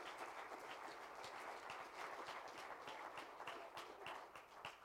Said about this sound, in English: I think we ought to give him another hand clap right now just for telling us about it.